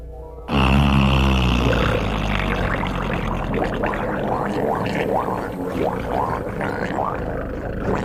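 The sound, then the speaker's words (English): Underwater recording of humpback whale calls, made in humpback feeding grounds off Baja California: low groans and rising, swooping moans layered over a constant rumbling hiss, starting abruptly and continuing loudly throughout. “This highly sophisticated submarine recording, made in the humpback's favorite feeding grounds off Baja California”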